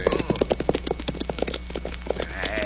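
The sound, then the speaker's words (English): Six or seven horses, ridden by the Conway boys, gallop past in a rapid, overlapping clatter of hoofbeats, a steady drumming rhythm that holds at a fairly even loudness for a few seconds. “Nobody is shooting and riding this way, amigo. Oh? Yeah. Here they come. 6, 7 of them.”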